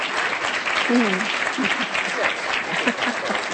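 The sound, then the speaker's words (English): An audience claps steadily for a speaker in a dense, sustained, loud burst of applause, with faint voices murmuring underneath. “Maybe you can applaud her first.”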